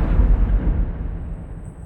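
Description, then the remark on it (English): A sharp crack gives way to a deep, heavy rumble of thunder, brought down by Thor with Mjolnir raised toward the sky, that rolls on loudly and slowly fades over about two seconds, with no voices. “Preparing to bring down the lightning and thunder.”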